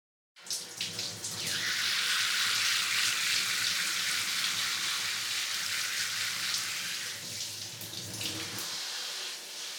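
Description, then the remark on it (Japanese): Steady shower spray hisses for several seconds as a person's hair is rinsed, a towel over their face, a broad continuous rush of water with slight shifts as it moves over the hair, then cuts off near the end. “どうでしょうか？シャワー、熱くないですか？”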